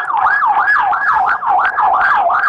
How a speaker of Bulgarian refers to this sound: Изчаквам сирените да спрят.